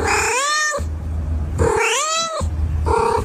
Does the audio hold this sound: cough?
no